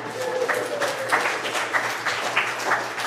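A short round of applause from a small group during church announcements, thanking a volunteer for the Room in the Inn program, a steady crackle of many hands clapping at moderate volume for about three seconds, with a faint low hum beneath.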